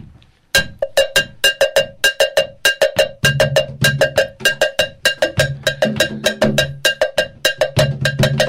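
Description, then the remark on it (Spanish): A bright, metallic cowbell-like percussion bell strikes in a quick, steady rhythm with sharp clanks, and from about three seconds a low drum-like thump joins underneath. “Y luego le metemos la campana, ¿sí? Que me decías tú que parece un cencerro, ¿verdad?”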